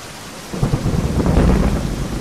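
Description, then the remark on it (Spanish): Heavy rain pours down steadily as a deep roll of thunder swells in after a quieter start and rumbles on through the downpour, with no voices. “Pedro, chapoteando en el lodo y tomándose con paciencia el diluvio, sale de debajo del toldo para ir a alguna casa a pedir cobijo.”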